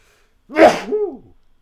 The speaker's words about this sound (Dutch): En ik moet niezen.